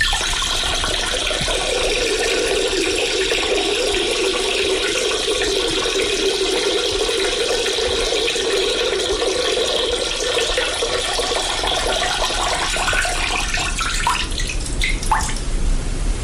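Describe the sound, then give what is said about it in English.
Steady running water, played as special effects for the film Avatar: The Way of the Water, pours and splashes continuously, fairly loud, with a few distinct drips near the end as the flow thins out. No one speaks. “This is special effects for Avatar. Right. The Way of the Water.”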